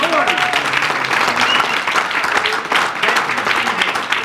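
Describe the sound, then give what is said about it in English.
A church audience bursts into sustained applause as a hand clap offering to the Lord, a dense wash of many hands clapping steadily, with scattered voices calling out beneath the clapping. “Let's give the Lord a hand clap offering today.”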